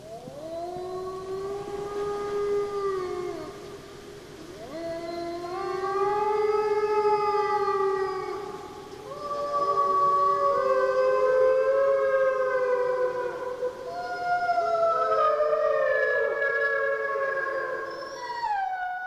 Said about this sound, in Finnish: Tämän viikon luontoääni kuuluu sudelle.